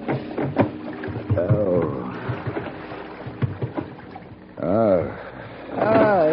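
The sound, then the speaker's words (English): A small rowboat rocks on the water, its wooden frame creaking in drawn-out, groaning bends over a steady wash of lapping water, moderately loud throughout. “The rocking movement of the small boat didn't help the dull, throbbing pain in my head.”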